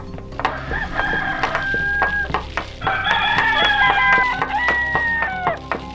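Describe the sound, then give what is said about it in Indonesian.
Several roosters near Prambanan crow as a sign of morning in overlapping, drawn-out calls, loud, with sharp clucks and scratchy barnyard noise between them and no voices. “Kemudian, Roro Jonggrang memerintahkan gadis-gadis di sekitar Prambanan untuk menumbuk padi dengan lesung, membakar jerami agar nampak fajar telah menyingsing, dan ayam jantan pun berkokok sebagai tanda datangnya pagi.”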